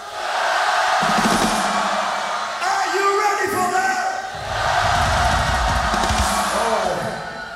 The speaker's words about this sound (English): We want you to scream as loud as you never did before the next song. Are you ready for that?